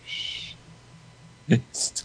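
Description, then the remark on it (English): Someone tries to whistle but produces only a breathy, airy hiss and a short puffed blow instead of a clear tone, followed by a couple of brief hissy bursts. “Try to whistle. No, you're making fart noises.”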